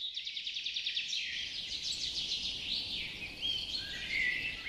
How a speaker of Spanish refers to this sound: «Ese pajarito llama a la lluvia» o «Ya viene el invierno» o quizás «Esos pajaritos llaman el agua»?